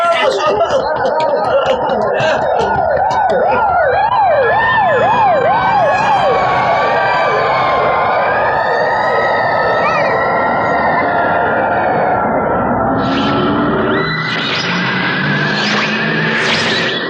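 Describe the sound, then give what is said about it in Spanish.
A loud police siren wails in the street, briefly switching to a rapid yelping warble before settling into long rising and falling tones over a steady street rumble. “¿Qué suena en la calle? ¡La policía!”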